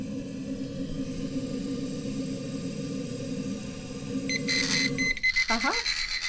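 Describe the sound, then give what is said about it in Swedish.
A battery-powered liquid level indicator hung on the rim of a mug starts beeping near the end as liquid from a tap reaches its sensors. Shrill electronic tones turn into a fast, insistent pulsing over a steady low rumble of pouring and background hum, with a brief voice at the close. “Och när vätskan når de här givarna, då sluter det kretsen.”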